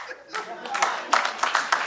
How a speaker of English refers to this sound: And half the room claps. Yeah. We accept your apology. We accept your apology because they're on my side.